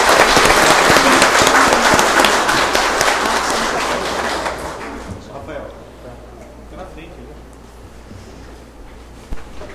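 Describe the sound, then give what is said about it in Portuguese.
A large audience claps loudly and steadily for about five seconds at the inauguration of the mayor of Nova Santa Helena, as the mayor's sash is passed to him. Then the applause thins out and fades into a quieter murmur with a few scattered claps. “Vamos aplaudir.”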